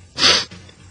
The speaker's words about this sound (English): Hold on, I got to sneeze.